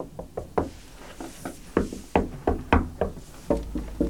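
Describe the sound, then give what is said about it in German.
Knocking on a wooden bookshelf to test for a hidden door behind it, a series of about a dozen dull, solid-sounding raps in irregular clusters, some harder than others, with no voices. “Ach, hört sich massiv an. Dahinter ist eine Außenwand.”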